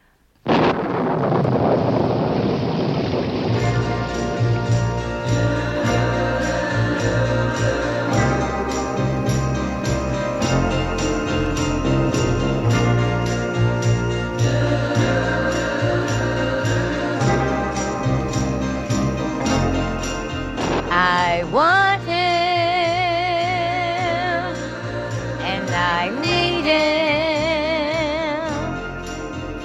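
A 1960s girl-group pop song plays loud and dense, a thick wall of instruments with a steady beat, and wavering sung lines rising clearly above the mix near the end.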